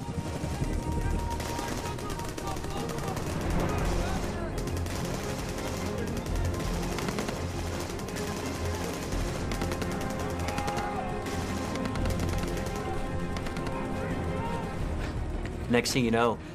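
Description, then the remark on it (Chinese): Dense, continuous gunfire with rapid automatic bursts and heavier booming blasts of mortar and rocket-propelled grenade explosions, with tracer rounds, loud throughout, with indistinct voices buried in the chaotic din of an intense firefight. “我们看到夜光弹，看到迫击炮和火箭助推榴弹不断爆炸，战斗十分激烈。”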